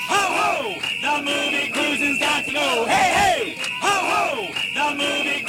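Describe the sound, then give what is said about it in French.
A large crowd of protesters in New York in 1979 chants slogans such as 'Cruising got to go' and 'Remember the Stonewall' in loud, rhythmic unison, voices rising and falling together in repeated phrases over a continuous roar of noise. “Un autre slogan s'est fait aussi entendre dans la foule, Remember the Stonewall, souvenez-vous de Stonewall.”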